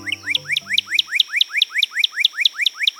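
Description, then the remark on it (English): A northern cardinal sings a rapid, evenly spaced series of bright upslurred whistles, about fourteen in a row, loud, while a low musical tone fades out in the first second. “Surely it's the cardinal, or as you'll find in a bird book, the northern cardinal.”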